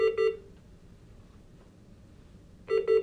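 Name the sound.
hospital monitor alarm beeping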